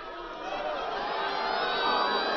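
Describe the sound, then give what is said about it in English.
A large crowd at a Sarah Palin election campaign rally cheers and applauds in a dense, steady roar of clapping and shouts, holding loud for a couple of seconds and swelling slightly toward the end. “A great applause line there Sarah Palin has, but it's also a rich stew of ideas.”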